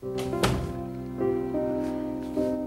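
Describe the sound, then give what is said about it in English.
A bedroom door shuts with a single dull, solid thunk near the start, while sustained low musical tones continue underneath. “She goes into her dark bedroom and shuts the door behind her.”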